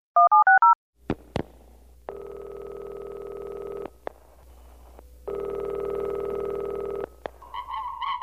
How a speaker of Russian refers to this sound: Художник снял с телефона трубку и быстро набрал номер ученого.